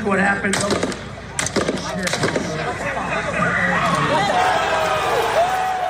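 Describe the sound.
Several sharp, loud gunshots crack in quick succession over the first two seconds amid a large crowd at a Donald Trump election rally in Pennsylvania, fired by a 20-year-old man, followed by sustained crowd noise with raised voices and screams.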